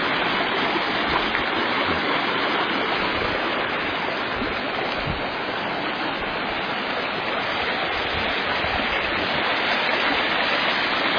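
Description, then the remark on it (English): Steady rushing creek water flows without pause, a dense, even hiss of splashing and gurgling that stays loud and constant throughout, with no voices over it. “Sometimes the creek tries to cut new trails.”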